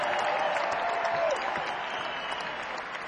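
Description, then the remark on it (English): An audience claps in a steady, dense round of applause for guitarist Godfrey Townsend as he is introduced during the band introductions at a live show, with a faint ringing tone fading out early and the clapping easing slightly toward the end. “On the guitar, would you please welcome and say hello, nice round of applause to the great Godfrey Townsend on the guitar tonight.”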